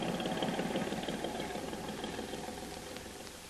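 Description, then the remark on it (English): A big boat's engine drones steadily as it goes out to sea, a dense low rumble with a faint mechanical throb that eases slightly as it heads away. No voices are heard. “There be big boat, master. Go out to sea.”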